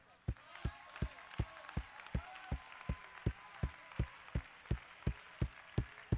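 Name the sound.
audience clapping hands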